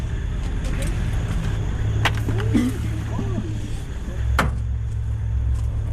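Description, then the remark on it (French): Car doors thud shut a few times, sharp clunks over a steady low engine rumble, with people shifting about and murmuring as they climb into a 4x4 vehicle to drive to Kahuzi-Biega National Park. “on va déployer avec le 4x4 à peu près à une vingtaine de minutes”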